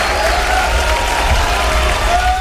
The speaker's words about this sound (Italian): Applausi.